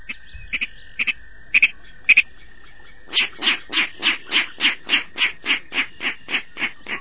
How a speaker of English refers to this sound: Today we're standing on a boardwalk overlooking a marsh. These clicks and oinks tell us a Virginia rail is close by. But rails are rarely seen. The Virginia rail is a secretive bird, a relative of coots and cranes.